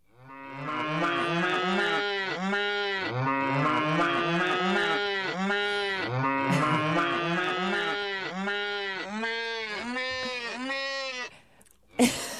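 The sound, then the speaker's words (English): A dense chorus of cows mooing, played by an altered RFID-controlled bell instrument, long overlapping lowing calls rising and falling continuously for about eleven seconds, loud, ending with a brief sharp knock. “Cows. Cows, yes. Cows are funny.”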